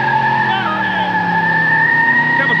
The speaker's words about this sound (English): closed the door, dropped the 427 Corvette motor in that sucker with two side pipes, and then he opened up the garage door and ran that thing down the street